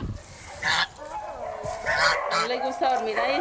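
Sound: goose honking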